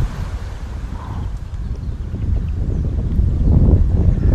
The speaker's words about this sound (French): Non, bouge pas, il y a du vent.